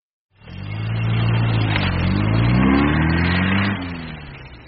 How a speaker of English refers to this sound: And I drove my car off the train and onto the road. A French road.